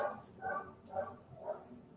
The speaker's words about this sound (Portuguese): O cachorro não vai parar de latir, mas vamos lá.